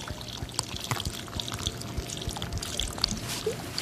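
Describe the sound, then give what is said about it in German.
Liquid milk chocolate pours steadily through an opening in the underside of a joined, upturned mold: a continuous wet trickle with small irregular splashes and gurgles running through the whole short moment, with no voices. “Wir drehen die fest verbundene Gussform einmal um und gießen unten die flüssige Schokolade rein.”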